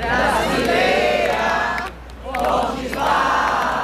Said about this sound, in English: On São Paulo's Paulista Avenue, crowds chanted Brazil's independence hymn, to free the homeland or to die for Brazil.